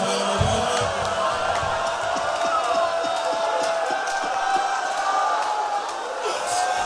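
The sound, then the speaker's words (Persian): A large mourning crowd weeps and wails together in a continuous, loud wash of overlapping voices, with rising and falling cries sustained for the full seven seconds. “دارم صدا گریهاتون رو میشنوم”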